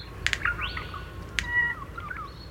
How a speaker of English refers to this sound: It has bill snaps involved in it, a clicking sound followed by a sort of upward whistling motion. It's very simple, like a lot of Australian bird songs, not like birds in Europe that go on for 20 to 30 seconds.